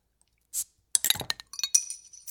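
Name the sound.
glasses clinking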